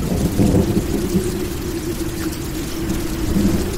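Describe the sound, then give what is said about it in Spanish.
Steady rain falls through layers of autumn leaves still hanging on the trees in a park, a dense, continuous patter, with a deep low rumble underneath that sounds like thunder. No one speaks. “Cuando Gray pasó ante el kiosco cerrado, empezó a llover. El agua cayó tamborileando a través de las capas de hojas otoñales que aún pendían de los árboles.”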